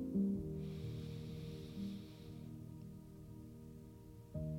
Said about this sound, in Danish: Og så lad os tag 3 vejrtrækninger, hvor vi giver slip. Første vejrtrækning. Og give slip på begivenheden. Anden vejrtrækning. Slip på begivenheden. Tredje vejrtrækning.